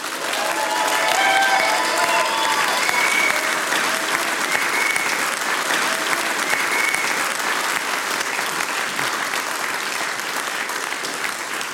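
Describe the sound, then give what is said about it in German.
Sustained audience applause for the participating singers and musicians at the Hengis-Zentrum, a dense, steady wash of clapping hands that holds at an even, fairly loud level for about twelve seconds, with faint whistles or cheers rising briefly early on. “Einen kräftigen Applaus für die mitwirkenden Sänger und Musikanten, bitte.”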